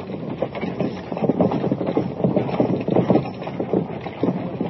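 The hooves of runaway stagecoach horses with no driver pound in a rapid, steady rhythm over a dense rumbling clatter, loud and continuous, with no voices.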